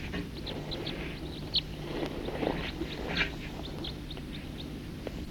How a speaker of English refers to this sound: Here's some other birds flying over.